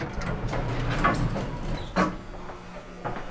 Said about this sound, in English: As the elevator doors opened onto the ground floor of the library